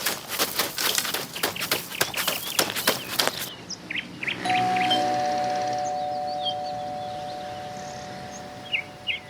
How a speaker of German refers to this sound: dann lass uns bei Frau Meier klingeln